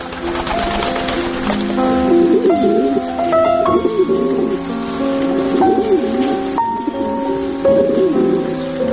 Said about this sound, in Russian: Обряд ухаживания, спаривания, когда голубь добивается взаимности, метет хвостом, и вот гудит, и наседает на нее. Это, конечно, зрелище несравнимое.